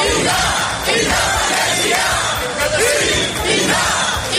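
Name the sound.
protest crowd chanting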